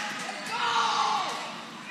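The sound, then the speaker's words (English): A crowd of fans screams and cheers during a volleyball match in a gym, one continuous roar of overlapping voices, swelling louder midway through before easing off slightly toward the end. “I don't know if you could hear some fans clearing the end zone, and I'm in the middle of the court. They're screaming like crazy.”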